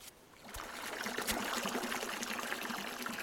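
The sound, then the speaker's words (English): Filtered fresh water trickles steadily into a wash bin, a continuous splashing patter with a couple of sharp knocks early on and no voices. “Well, I get up and I walk over to the wash bin.”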